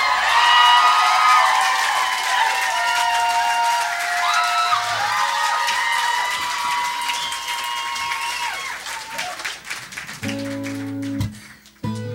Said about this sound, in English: guys are so damn quiet, we're not going to use any of this applause for our record.